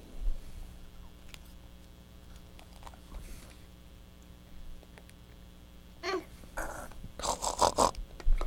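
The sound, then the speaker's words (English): A voice imitates a pig, making a few rough, nasal snorting bursts near the end after a stretch of quiet low rumble and faint shuffling. “The piggy.”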